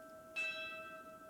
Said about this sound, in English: Oh, those bells.